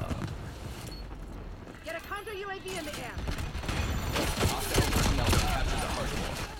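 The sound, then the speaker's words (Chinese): Rapid video game gunfire, with someone shooting from behind the player, crackles in dense, overlapping bursts, growing louder and more intense toward the end, with a brief voice-like tone partway through and busy game noise throughout. “我知道後面咩人射緊”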